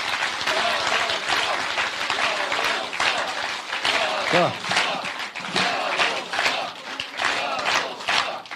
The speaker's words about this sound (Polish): I chciałbym poprosić o takie gorące oklaski i pozdrowienie dla Jarosława Kaczyńskiego.